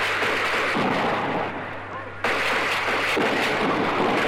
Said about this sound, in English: The shots are coming fast and heavy now here in Detroit as the night is again broken by gunfire.